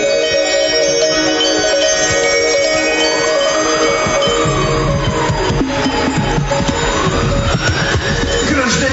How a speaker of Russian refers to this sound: Еду, еду в чистом поле, колокольчик дин-дин-дин, страшно, страшно по неволе средь неведомых равнин.